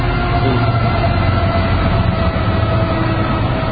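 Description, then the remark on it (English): A fast eastbound freight train with one locomotive on the head end, its cars loaded with automobiles, rumbles past, a loud, steady roar of heavy low-end noise with faint tonal whines riding on top, continuous throughout with no voices. “Well, it is an eastbound train. It's a fast train, moving relatively quickly.”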